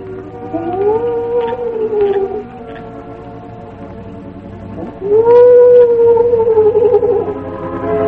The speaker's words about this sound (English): That night, however, the shadowy figure of a man crept toward the stronghold of the red men. At regular intervals, he paused, and the low, mournful cry of the owl was heard through the night.